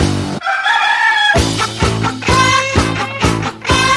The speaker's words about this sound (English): Psycho chicken.